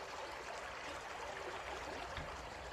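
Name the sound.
river water flowing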